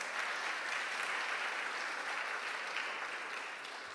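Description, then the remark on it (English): Steady, sustained applause from an audience for the band in Ballyhenry, a dense wash of many hands clapping at an even level for several seconds, tapering only slightly toward the end, with no talking over it. “Give them a round of applause, just to encourage them.”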